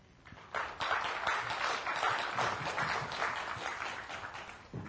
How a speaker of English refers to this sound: Thank you very much for your presentation. Here is a gift for contributing to our conference. Thank you. And let's have more applause for Simon.